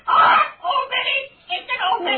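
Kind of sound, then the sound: bird, blackbird squawking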